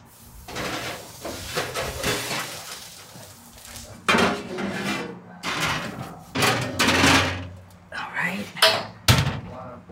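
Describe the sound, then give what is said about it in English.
A pie dish clatters onto an oven rack as a pie goes into a 425-degree oven for about 10 minutes to brown the crust, with a series of sharp metallic clanks and scrapes, then the oven door thumps shut, with faint rustling and movement between the knocks. “Okay, so now I'm going to put it in a 425 oven for about 10 minutes so that the crust gets brown.”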